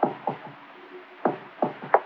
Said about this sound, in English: People upstairs, noisy type, noisy plumbing. And another kid bouncing a ball on the floor. Sounds like a ball.